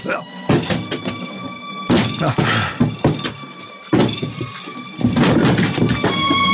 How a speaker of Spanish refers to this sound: Será necesario forzar la puerta. El hombre increíble pone en tensión los músculos de sus hombros y brazos y